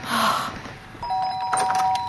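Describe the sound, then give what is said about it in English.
A doorbell rings, a bright steady electronic chime that holds for about a second, following a short burst of hissy rustling noise. “did you hear the door?”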